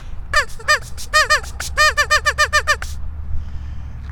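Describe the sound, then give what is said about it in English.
A man blows a duck call toward a group of geese: a rapid run of about fifteen nasal, honking quacks in quick bursts, loud, then the calling stops and only faint background noise remains. “That's me doing my duck call.”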